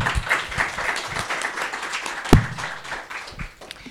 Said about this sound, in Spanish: Adelante, por favor. Un aplauso, por favor.